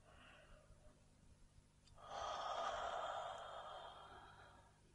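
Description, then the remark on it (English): A person takes a deep breath while yawning: a soft breath drawn in quietly, then a long, airy exhale that swells and slowly fades over a few seconds, with no talking. “Taking deep breaths in and out and maybe scrunching the eyes and the forehead as you yawn.”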